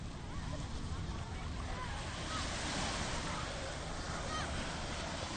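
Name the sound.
ocean waves breaking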